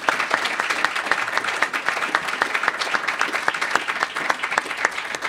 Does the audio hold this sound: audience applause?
yes